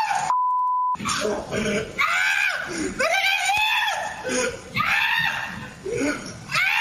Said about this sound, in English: and he was screaming and running as he jumped up on top of a car to get away from Smokey. And this is what it sounded like when he was running away.